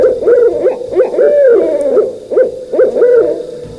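A spectacled owl hoots at night in a quick series of deep, moaning notes, repeating in short bursts with brief pauses. The calls are fairly loud, with no voices present.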